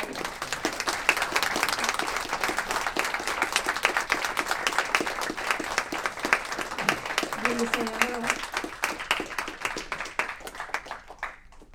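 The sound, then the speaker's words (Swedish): Sustained warm applause from an audience for a person being thanked and given flowers for their engagement, dense rapid clapping that stays steady for several seconds before thinning out, with a few brief voices rising over it. “Och en jättevarm applåd.”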